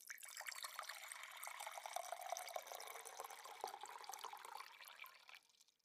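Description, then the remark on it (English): Water pours steadily into a glass for several seconds, a continuous splashing stream that rises slightly in pitch as the glass fills, then tapers off near the end. “Maybe I could. Pour myself another glass of water.”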